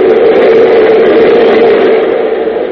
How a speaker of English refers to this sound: To the left and right are plate glass windows looking out on the murky darkness of the underground city. Suddenly a train roars past the windows, its lights illuminating the faces of the two men.